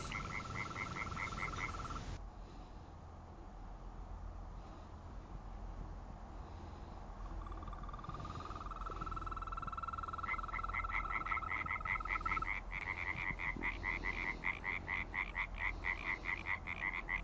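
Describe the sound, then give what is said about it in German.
After dark, tree frogs call in loud bursts of rapid, rattling pulses at a pond, while green toads add a long, steady, lower-pitched trill that runs through the middle. No one speaks. “Das laute Quaken, das sind die Laubfrösche. Aber da ist doch auch noch ein anderer Ton. Ach das? Das sind die Wechselkröten.”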